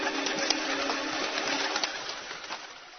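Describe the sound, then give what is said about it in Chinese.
A startled pigeon takes off in a flurry of rapid, papery wingbeats, a busy flutter that gradually trails off as it hurriedly flies away. No one speaks. “鸽子吓了一跳，慌忙展翅飞走了。”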